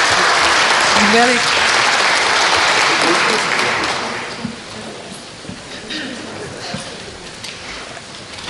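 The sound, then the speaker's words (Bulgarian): Audience applause at an award presentation rises as a dense, steady wash of clapping for about four seconds, then thins out and fades, leaving scattered claps and faint voices murmuring underneath. “Така че, аплодисменти.”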